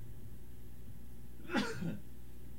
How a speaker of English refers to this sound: The radio is yours, and an off-microphone sneeze does indicate allergy season, so congratulations to all those who celebrate.